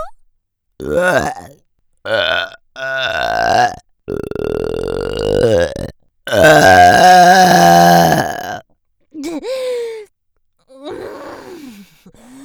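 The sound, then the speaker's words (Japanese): A series of very loud, long, croaking burps erupts, the longest stretching over two seconds, then trails off into a couple of quieter, groaning belches. “あ、出す、ぶっこく、あ、超でっけえゲップ、こき垂れる。”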